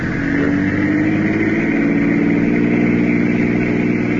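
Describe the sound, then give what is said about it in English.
A car engine drones loudly and steadily from inside the vehicle, its low hum holding without pause for a few seconds. No one speaks. The car is speeding up as the driver goes faster to see whether a car behind keeps up. “Faster, Richie. See if that car stays with us.”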